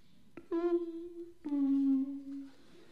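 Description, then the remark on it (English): A two-note home doorbell chime rings once, a higher tone followed by a slightly lower one, each striking sharply and fading out, with no talking over it. “That's my doorbell.”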